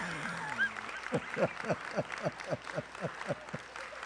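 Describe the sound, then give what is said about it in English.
Rhythmic clapping from an audience, steady and fairly quick, starting after a brief bit of voice and continuing in an even beat at moderate loudness. “If you want to clap, just clap already.”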